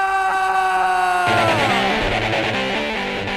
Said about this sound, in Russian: И следующее событие просто нужно предварять даже не песней. Этот крик у нас песней зовется. Fire!